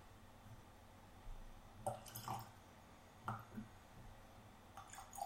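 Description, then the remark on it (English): Water trickles into a glass of whiskey in a few small, irregular splashes and drips, quiet, with a faint low background hum and no talking. “Can you put me some water in this while you go down memory lane?”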